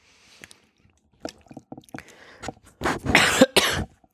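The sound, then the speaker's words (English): Soft swallowing clicks and gulps as a person drinks water, then a burst of two or three loud coughs in quick succession, harsh and raspy. No one speaks. “My God, no cough”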